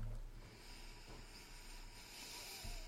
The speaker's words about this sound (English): He's sniffing the top of the bottle. Oh, smell that.